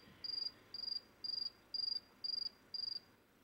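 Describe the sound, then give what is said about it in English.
A male cricket chirps in a steady rhythm, six evenly spaced trilling pulses about half a second apart, clear and fairly loud over a faint background hiss. “she can't see a male cricket, she can't smell a male cricket, but nevertheless, she goes charging off trying to find a male cricket.”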